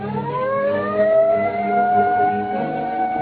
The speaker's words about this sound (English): There's the police car.